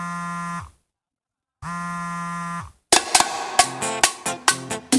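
A phone vibrates with an incoming call: two steady, low droning buzzes about a second long with a short pause between, followed by a run of sharp, rhythmic percussive hits.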